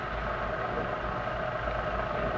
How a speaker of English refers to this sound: It's a car.